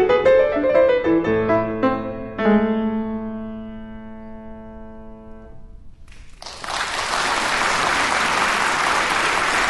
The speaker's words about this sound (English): Let's add our applause, too.